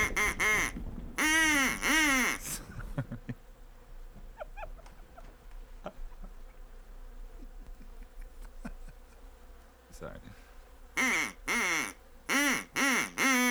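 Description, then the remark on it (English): Silver swans call loudly as they land on a mountaintop, in bursts of harsh, nasal honks at the start and again near the end, with a quieter stretch of faint chirps and soft rustling in between. “Yes, they're silver swans, and they carry in their bills the body of a third, a swan of gold.”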